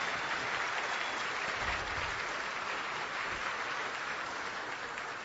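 Steady, dense applause from a large audience applauding themselves for attending, many hands clapping together in a continuous wash of sound that holds at an even level for several seconds.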